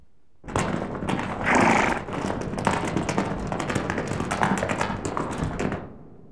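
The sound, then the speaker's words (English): Zebra hooves clip-clop in a quick, steady trotting rhythm for several seconds, fairly loud, with no voices. “Zebra.”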